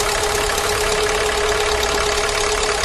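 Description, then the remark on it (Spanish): A van engine with a failing piston runs loud and steady, a continuous rough rumble with a persistent humming tone through it and no one speaking. “Así suena un pistón que falla.”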